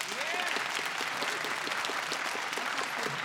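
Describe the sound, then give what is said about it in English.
An audience in Cedar Rapids claps steadily for about three seconds to vote on whether traffic cameras make driving in the city safer, a dense patter of many hands at fairly even loudness, with a faint murmur of voices underneath. “Do you believe it makes driving in this fair city safer? Clap.”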